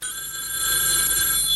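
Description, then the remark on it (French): A telephone on a dresser in a hallway rings steadily, a bright sustained trill with a high metallic buzz, loud with no voices over it. “Le téléphone sonne.”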